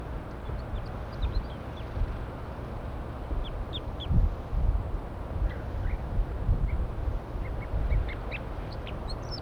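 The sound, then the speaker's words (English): Wild birds perched in a pine tree call in scattered short, high chirps throughout, with a few louder squawks, all over a constant rushing, rumbling background noise. No one speaks. “Start recording the wild birds perched in the pine tree.”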